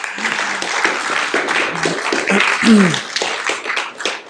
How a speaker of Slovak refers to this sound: A toto teraz bolo, ako by iba jedna ulica tlieskala.